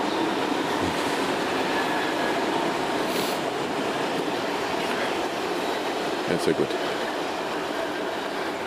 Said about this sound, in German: Hallo S-Bahnen.